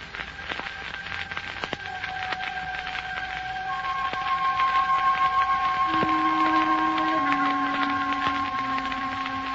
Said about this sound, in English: And that creak brings down the curtain on The Adventure of the Fallen Angel.